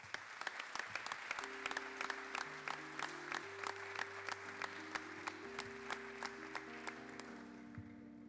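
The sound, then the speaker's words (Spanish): An audience at an awards ceremony claps steadily for the three prizewinners of the written and recited copla category during their group photo, a dense rattle of hands, while sustained musical tones play underneath the applause. “Fuerte el aplauso.”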